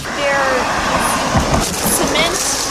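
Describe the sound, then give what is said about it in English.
Highway traffic rushes past in a steady, loud roar, with tire whine rising and fading as vehicles go by and muffled, indistinct voices faintly underneath. “You can hear what the salamanders are up against if it weren't for these tunnels.”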